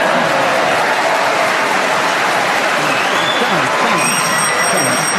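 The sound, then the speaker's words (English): A sustained round of applause from the audience at the 701st recording of the show Just a Minute, dense and steady clapping filling the whole stretch at a loud, even level, with a faint murmur of the crowd mixed in. “This is the 701st recording ever, and I think that, for a minute, it's a round of applause.”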